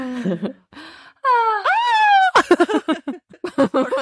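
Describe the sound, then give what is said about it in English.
A person lets out a loud, high-pitched shriek on seeing a spider, lasting about a second, its pitch wavering and climbing, preceded by a brief low vocal sound and followed by rapid choppy vocal bursts. “That's a shriek. No longer a sigh.”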